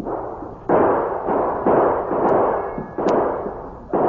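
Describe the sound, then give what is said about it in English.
A series of about six loud gunshots from two men shooting across the street, at uneven intervals, each a sharp crack followed by a long, rumbling decay that runs into the next shot, with no voices. “Hey, there's two hombres across the street throwing lead.”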